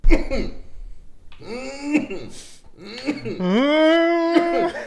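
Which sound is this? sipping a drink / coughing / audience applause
coughing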